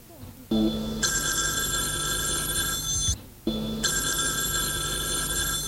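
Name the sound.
telephone ringing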